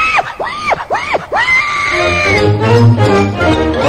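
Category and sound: animal, pig grunting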